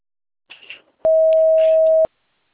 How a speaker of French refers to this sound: Veuillez nous laisser votre message et nous vous recontacterons dans les plus brefs délais. À la tonalité, enregistrez votre message.